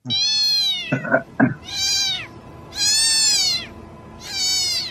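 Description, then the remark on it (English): A cat meows repeatedly, about four drawn-out, high-pitched calls with a few short chirpy sounds in between, loud with no talking, played from a video entitled How to Summon Your Cat. “It's a video entitled How to Summon Your Cat, and it worked.”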